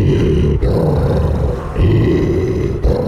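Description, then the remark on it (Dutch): A deep, rough growl from an evil troll rumbles loudly and continuously, broken into three long snarling phrases by brief pauses, with no speech over it. “Matte gromde. De kwaadaardige troll.”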